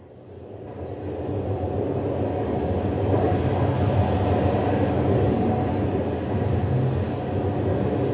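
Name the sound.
train travelling on rails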